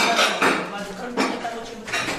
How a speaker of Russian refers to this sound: Вы видите, друзья, как американские архитекторы открывают бутылки.